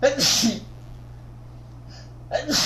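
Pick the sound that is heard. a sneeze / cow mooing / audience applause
a sneeze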